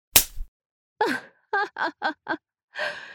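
A single sharp slap on skin, delivered with large breasts, rings out at the start, followed by a gasp, a quick series of short voiced cries, and a breathy sigh, with no words.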